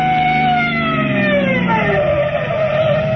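A police car siren wails loudly and continuously during a chase, its pitch sliding downward as if passing, over the rumble of a moving vehicle engine.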